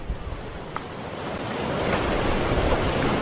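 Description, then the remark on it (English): Heavy ocean surf, kicked up by hurricanes Imelda and Umberto, roars continuously against beach houses on North Carolina's Outer Banks at Buxton, a dense wash of crashing waves that swells louder toward the end, with gusty wind buffeting the microphone and no voices. “Some more beach houses have proven no match for the thundering surf that's pounding North Carolina's Outer Banks.”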